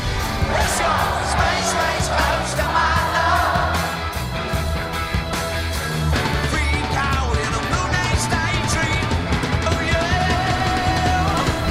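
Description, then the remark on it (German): A loud, dense roar of a euphoric concert crowd cheering and singing along over live music, from previously unreleased concert recordings in a documentary film, continuous and steady throughout, with wavering voices rising above the wash. “Bislang unbekannte Konzertmitschnitte fangen seine magnetisierende Präsenz ein und auch das völlig euphorisierte Publikum.”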